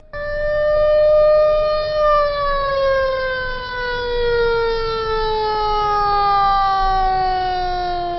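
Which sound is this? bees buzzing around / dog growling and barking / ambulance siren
ambulance siren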